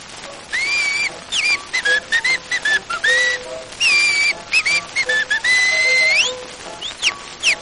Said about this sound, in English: He could whistle like a nightingale in June. And early every morning he'd go off and do his work, and he'd whistle up the same old tune.